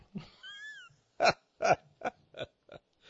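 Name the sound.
cat meowing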